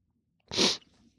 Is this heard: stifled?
yes